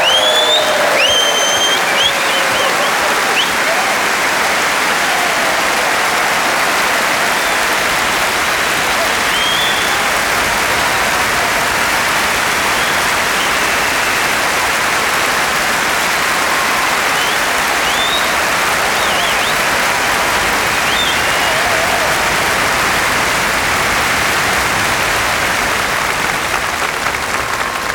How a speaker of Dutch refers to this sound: Dames en heren, ik kan u vertellen, er is maar één zo'n orkest in de hele wereld. Geef ze een enorm applaus voor het …!